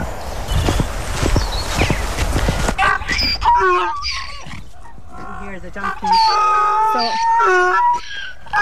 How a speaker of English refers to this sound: These are our little piggies. They're not quite little now. We see this one here with the stripe. That's Will and his girlfriend Grace. And these are their babies. But they're miniature pigs, these, and they just love being out.